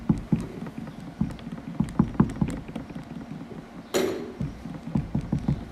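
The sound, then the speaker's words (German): A steady run of soft, low thumps mimics footsteps, tapping out a walking rhythm, interrupted near the end by a short rushing hiss before the steps resume. “Das sollen Schritte sein.”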